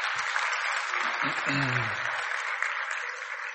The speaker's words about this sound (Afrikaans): Goed, kom ons gee vir hulle harde hande klap.